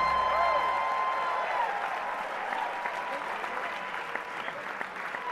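A large audience claps steadily over a tuneful theme song, the crowd's applause dense and continuous, filling the room alongside the music.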